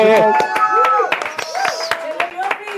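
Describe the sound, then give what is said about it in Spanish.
Audience applause welcoming Leopi, a dating coach and bestselling author: a burst of scattered, irregular hand claps mixed with voices calling out and cheering, fairly loud and steady for a few seconds. “Un aplauso para Leopi.”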